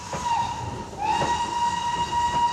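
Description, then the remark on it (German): A train rumbles along the rails while a sustained, high steam whistle sounds steadily over it, with rhythmic clacking of wheels underneath; no voices. “Gardelegen bekommt Eisenbahnanschluss nach Berlin und Hannover.”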